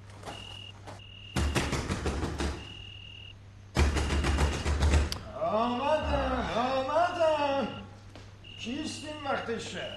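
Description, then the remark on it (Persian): Two loud bursts of rapid, heavy knocking from a door knocker at night, separated by a short pause; afterward people begin talking over a faint steady hum. “دیگر بگذار کوبه را بکوبم.”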